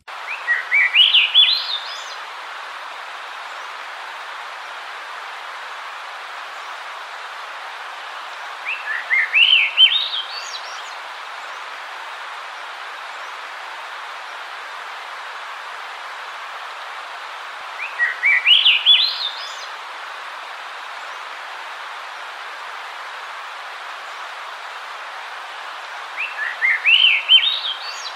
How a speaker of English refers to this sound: So that was a Swainson's Thrush. Usually you'll start hearing them sing around the last of May.